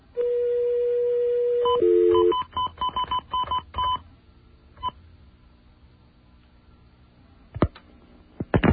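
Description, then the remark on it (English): A steady dial tone gives way to a quick run of telephone keypad DTMF tones as someone dials 917 information, about a dozen short beeps in brisk succession, followed by quiet line noise and a few faint clicks. “I called 917 information.”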